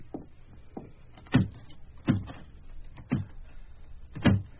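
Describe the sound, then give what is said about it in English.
The handle of a locked door with an old lock is rattled in a series of short, sharp jolts at uneven intervals, moderately loud, with no voices; the handle will not turn. “The handle won't even turn.”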